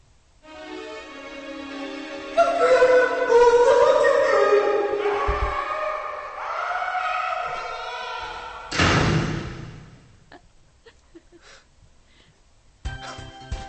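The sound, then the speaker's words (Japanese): A short musical jingle: sustained, harmonic-rich tones with a wavering melodic line swell for several seconds, then a heavy thud hits, leaving a quiet tail of faint scattered clicks. No one speaks. “余韻がすごかったですね、今のジングル。”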